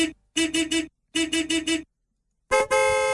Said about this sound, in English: So as soon as you hear someone tooting in the traffic, all you have to do is toot back. And then this happens.